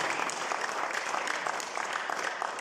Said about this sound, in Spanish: Denle el aplauso a Cristo, por favor.